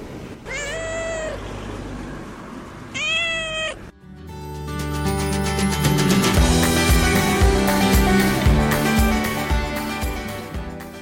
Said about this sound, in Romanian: Cred că mai sunt și pisicile pe acolo. Și chiar a avut dreptate. De cum ne-am apropiat de gardul casei, ne-a și întâmpinat o pisică.